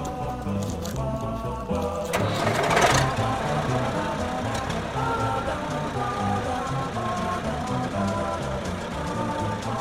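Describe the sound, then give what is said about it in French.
A farm tractor engine sputters and roars to life with a loud burst, then settles into a steady, throbbing diesel idle with a low rumbling hum that continues to the end; the tractor is being started to do stubble tillage before resowing. “Je vais démarrer le tracteur, ça risque de faire beaucoup de bruit.”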